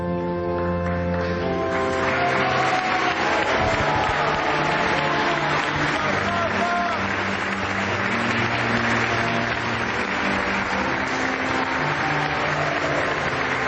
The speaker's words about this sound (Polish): Oklaskami i wykrzyknikami niech żyje papież.